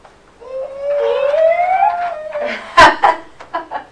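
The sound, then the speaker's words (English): A child's voice imitates a train, making a long rising, wavering hoot, then breaks into a few short bursts that sound like giggles or breathy laughs. “What's that funny noise? Is that the noise of the train?”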